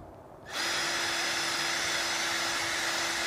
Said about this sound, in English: cleaning the moldy grout in your shower stall by attaching a small scrub brush to a bolt. You can stick it into your drill like so, lock it in place.